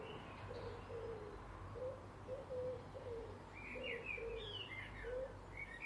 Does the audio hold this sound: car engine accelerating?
no